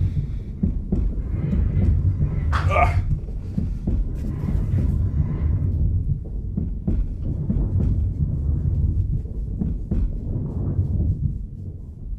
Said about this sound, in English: There's a train.